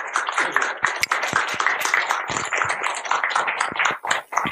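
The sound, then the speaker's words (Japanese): An audience applauds steadily to welcome psychiatrist Tamaki Saito as a guest, many overlapping claps forming a dense, even patter that holds at a fairly loud level for several seconds, with no talking. “皆さん拍手でお迎えください。”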